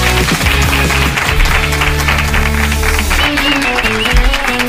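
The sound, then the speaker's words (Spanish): Audience applause, a dense steady clatter of many hands, mixed with loud music carrying a strong bass line throughout, holding at an even level for nearly five seconds, as a guest author is thanked for coming on with his book. “Un aplauso para muchas Pablo gracias.”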